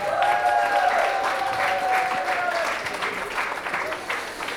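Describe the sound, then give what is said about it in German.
Loud, sustained applause from an audience at a school poetry slam on Grenzacker Straße in the 10th district, a dense patter of clapping hands for Mieze Medusa after a score of 39 points, with a brief whistle or cheer near the start, tapering slightly toward the end. “Das heißt, wir haben eine Wertung von 39 Punkte und ein Applaus für Mieze Medusa.”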